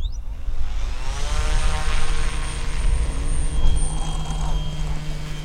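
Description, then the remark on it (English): The propeller engine of a small fixed-wing drone with a gray body and white nose runs at a steady, buzzing idle on a runway near 290 out by Manor before taking off, its tone holding even over a low rumble of wind or ground noise. Fairly loud, with no voices. “It idles on a runway near 290 out by Manor, and then take off.”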